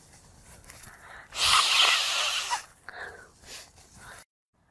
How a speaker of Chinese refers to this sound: 他在擤鼻涕。